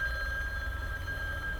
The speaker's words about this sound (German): Unser Telefon. Ich bin gleich wieder da.